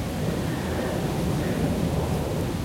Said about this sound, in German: Ich höre noch die Straße. Oder vielleicht ist auch der Wind in den Baumkronen. Das ist der Wind in den Baumkronen.